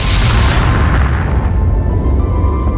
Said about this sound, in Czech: To byla exploze supervulkánů. Ten sopečný materiál, který produkovala právě tenhle ten supervulkán, tak pohřbil tu původní flóru, nebo tu flóru, která tady rostla přímo na místě svého růstu.